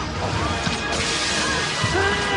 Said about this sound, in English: Was that breaking glass? Yes. Yes! What happens is Michael Madsen smashes the window